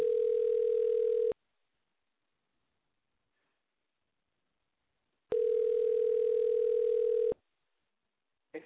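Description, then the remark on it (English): A phone call to a woman rings out: a ringback tone sounds twice, each a steady mid-pitched buzz of about two seconds separated by a long silent gap, with the call going unanswered and no voices. “I'm going to call this person.”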